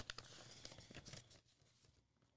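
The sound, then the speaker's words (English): Crinkling and tearing of paper as an envelope from a Disney box is ripped open, a burst of sharp rustles in the first second and a half, then quieter shuffling paper. “We got papers. Okay, got an envelope. Envelope.”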